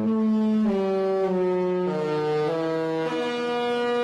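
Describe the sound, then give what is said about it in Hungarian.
A cruise ship horn blasts a loud, sustained melody, its rich brassy tone stepping between several held notes over four seconds, with no voices; the ship sounds its special horn to greet the onlookers. “Ez a tengerjáró különleges kürtszóval köszönti a nézőket.”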